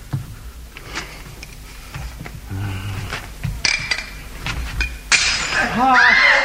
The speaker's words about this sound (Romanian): Am scăpat călimara pe fereastră.